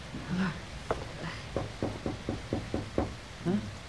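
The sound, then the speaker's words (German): A quick series of about eight sharp knocks on a wooden door of a house with no doorbell, fairly loud in a steady rhythm, with a brief murmur of a voice just before and after. “Mann, gibt's hier keine Klingel? Nicht zu sehen. Klopf doch mal.”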